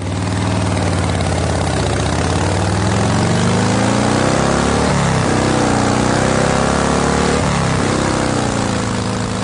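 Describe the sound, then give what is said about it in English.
A motorcycle engine idles with a loud, steady low rumble that runs the whole time, its pitch wavering slightly a couple of times as if the throttle is lightly blipped. “Okay, so hopefully that was, that was either dead air or a motorcycle sound.”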